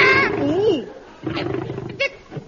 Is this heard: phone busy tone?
no